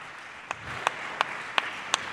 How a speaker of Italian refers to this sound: Allora, tutto questo evento verrà tradotto simultaneamente nella lingua dei segni da Moon Event, a cui potremmo fare un brevissimo applauso.